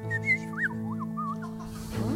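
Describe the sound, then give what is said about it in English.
A songbird in an aviary in a park sings a short run of clear, warbling whistled notes that swoop up and down, over a steady low background hum with no talking. “The sound, beautiful sound of songbird music is in the air.”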